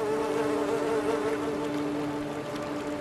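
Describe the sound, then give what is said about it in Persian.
A housefly buzzes steadily, its droning hum wavering slightly in pitch for the whole stretch, with no voices present. “من یکیشونو دیدم. مگس رو با زور بازو نمیشه کشت.”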